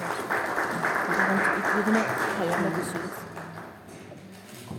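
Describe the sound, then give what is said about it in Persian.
An audience claps steadily for a speaker in a dense wash of applause that holds for several seconds, then gradually thins and fades toward the end, with faint murmuring beneath it. “تشویقشون بکنید تا از بیانات ایشون استفاده کنید.”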